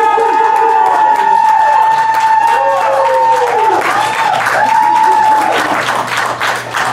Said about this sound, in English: So the judges couldn't agree, so therefore, you guys are gonna be the deciding factor. All in favor of Kimberly, signify by clapping.